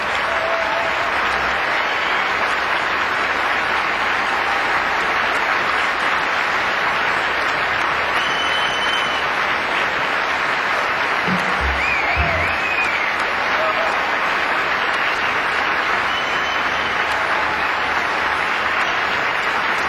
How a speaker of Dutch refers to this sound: Een groot applaus voor … samen met zijn …